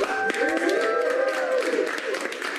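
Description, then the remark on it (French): A crowd claps steadily throughout, a dense patter of hand claps at moderate loudness, with voices calling or cheering over the applause, applauding the first vaccination at a hospital in Queens, New York, in the morning. “Des applaudissements pour une première vaccination dans un hôpital du Queens à New York, quartier profondément meurtri par la première vague de l'épidémie au printemps.”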